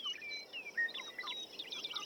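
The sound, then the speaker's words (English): Busy birdsong fills the air, with many thin, high chirps, whistles and quick trills overlapping in a steady chorus, and no voices present. “That birdsong, more than any other sonic element of nature, appears in our classical music, appears through the ages, that birdsong is music to our ears.”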